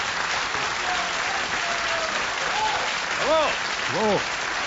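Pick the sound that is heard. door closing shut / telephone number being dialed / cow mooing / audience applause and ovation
audience applause and ovation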